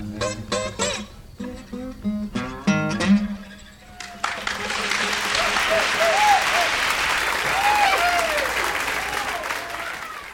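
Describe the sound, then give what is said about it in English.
A song ends on a few final chords, then a European audience breaks into steady, sustained, respectful applause for several seconds, with a few faint shouts rising above the clapping. “Donc une optique un petit peu artificielle, avec en Europe un public qui applaudissait respectueusement à la fin des morceaux”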